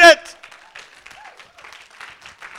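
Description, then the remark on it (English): A church audience, prompted by the preacher, breaks into steady, scattered clapping that carries on at an even level, opening with a brief loud vocal shout, with voices cheering faintly under the applause. “Somebody needs to clap.”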